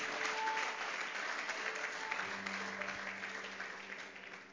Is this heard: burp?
no